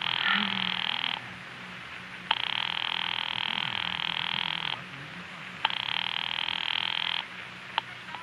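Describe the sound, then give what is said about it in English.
A telephone line ringing tone repeats three times as a call rings through to an office on the Murray Hill exchange, each long buzzy ring lasting a couple of seconds and separated by pauses, heard clearly as if through a handset, with a faint low hum underneath. “Ringing Murray Hill”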